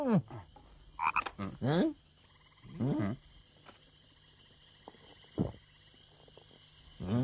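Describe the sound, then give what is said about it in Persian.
Several loud, throaty frog croaks sound in irregular bursts, set against a steady high-pitched chorus of insects or other frogs that continues throughout. “قورباغه، من از قورباغه ها متنفرم.”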